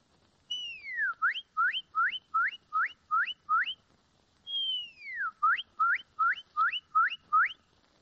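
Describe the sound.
A woman whistles an imitation of a cardinal (red bird) song twice: a long descending slur followed by a rapid series of rising upslurred notes, clear with no other sounds.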